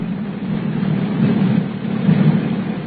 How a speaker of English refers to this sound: Listen to that rain. A regular cloudburst.